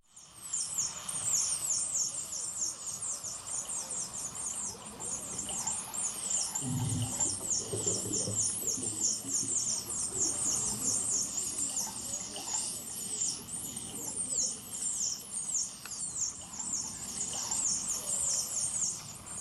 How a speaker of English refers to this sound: That's the sound of dolphins as they're being slaughtered in a cove in Taiji, Japan.